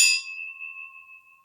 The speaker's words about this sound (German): Die Gläser klingen auf jeden Fall gut. Klingen gut.